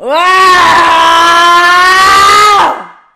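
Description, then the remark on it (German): A woman kneeling on a yoga mat lets out one long, loud, sustained scream lasting about two and a half seconds in an anger-release exercise, strained and steady in pitch before cutting off abruptly, with no talking around it. “Dabei kniet sie auf einer Yogamatte und schreit und wirkt einen Polster.”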